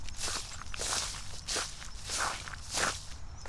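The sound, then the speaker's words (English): Footsteps shuffling through dry fallen leaves on a path on a clear, windless day, a steady rhythm of crisp, crackling rustles, about five or six scuffing steps, fairly loud and with no talking. “On the path as I shuffle through them.”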